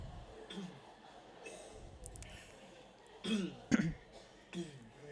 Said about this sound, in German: Der zweite Schritt ist, sich zu räuspern.